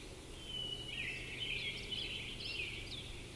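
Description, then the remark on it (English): Short, sharp calls repeat irregularly from two birds calling rather than singing, fairly quiet over a steady low outdoor rumble, at 4:48. No one speaks. “There are definitely two in here calling, but no singing.”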